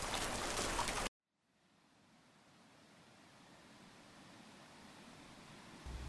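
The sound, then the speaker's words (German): A burst of loud, hissing noise cuts off abruptly, then steady rain fades back in as a soft, even patter that gradually grows louder. No one speaks. “Ich hab immer gewusst, es regnet im Himmel.”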